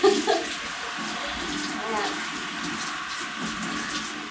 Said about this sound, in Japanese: でさらにシャワー浴びてるところまで聞かれるようになるとは思わないじゃん。